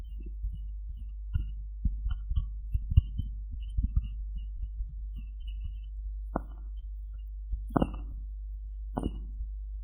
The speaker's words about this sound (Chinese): 还想听心跳声，好啊，一会儿给你弄。